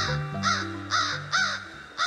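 A crow caws four times in a steady, evenly spaced series, each call a loud, harsh, raspy burst, over a low sustained tonal hum.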